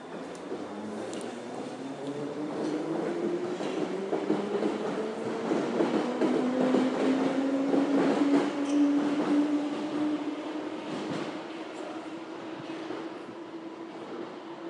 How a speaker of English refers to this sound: Still quite a few people coming off the train here. Running a bit late if they come for the fireworks.